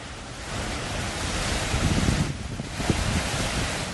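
ocean waves and wind

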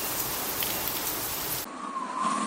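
rain falling

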